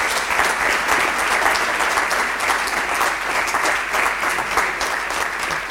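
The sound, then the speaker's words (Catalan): Steady applause from a sizable audience for the people who kept the Malvasia grape variety from disappearing: dense, even clapping that stays loud and sustained throughout with no pauses and no voices standing out. “Així que demano un aplaudiment per aquestes persones que han fet que la Malvasia no hagi desaparegut.”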